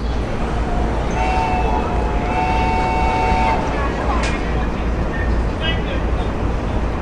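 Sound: train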